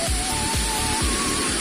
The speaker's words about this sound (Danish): Så fik vi lige spray den myg væk.